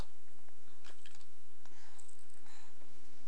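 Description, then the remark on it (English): A zipper being pulled in a few short, raspy bursts with small clicks between them, fairly quiet, with no talking. “Take the zipper. Makes a noise, doesn't it? a zipper.”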